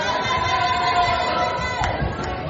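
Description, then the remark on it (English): A group of children cheer and shout excitedly in a dense, continuous crowd noise, with a brief sharp sound near the end, cheering on three children racing to a door and back. “Right, I'm going to have, as I've got three of you here, carefully, I would like you to run to the door and back and see who comes first. Come on then, cheer them on, run.”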